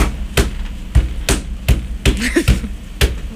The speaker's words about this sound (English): Very believable sound. I think you got it. That's what the sound of an air conditioner being destroyed is.